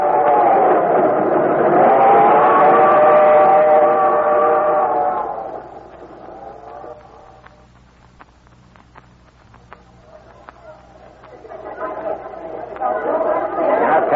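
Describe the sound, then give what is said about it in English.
Dense crowd chatter in the busy Times Square subway station in New York, loud at first, thinning to a quieter stretch with scattered clicks and footsteps, then swelling again as the murmur of many voices returns. “Well, this is the busiest subway station in the world,”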